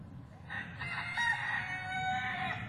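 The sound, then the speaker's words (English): Chickens crowing and clucking in a garden, a drawn-out rooster crow rising over a steady low rumble of background noise for a few seconds. “Chickens!”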